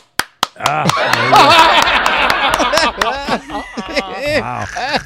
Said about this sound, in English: He's clapping over that.